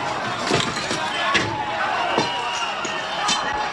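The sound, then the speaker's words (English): Loud metallic bangs and clatters at irregular intervals, five or so heavy impacts, over a noisy outdoor crowd with indistinct voices, as protesters tear down the metal grating in front of City Hall. “The grating in front of City Hall continues to get torn down.”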